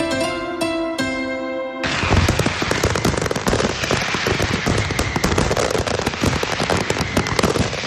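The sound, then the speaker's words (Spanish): A loud fireworks display, the Castell de Loya fired over the bay of Altea at midnight, bursts into dense, continuous crackling and popping after a short harmonic tone, with rapid overlapping bangs sustained to the end. “Ya falta poco, este sonido va a volver mañana sábado a medianoche a la bahía de Altea, cuando se empiece a disparar el Castell de Loya, que una vez más espera reunir a miles de personas.”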